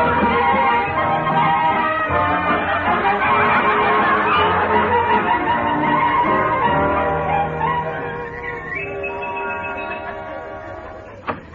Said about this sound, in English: Good day, sir. The birds began to sing.